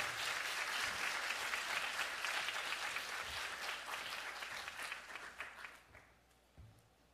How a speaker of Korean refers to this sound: 오늘 큰 박수로 한번 맞이하겠습니다.